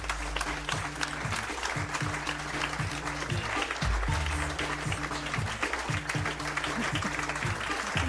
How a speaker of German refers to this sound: Einen großen Applaus für unseren heutigen Gast hier beim Weserstrand, Professor Dr. Antje Boetius.